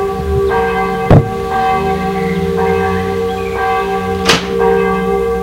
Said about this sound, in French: L'après-midi, très excité et ému, il sonne au portail. Et attend, anxieux.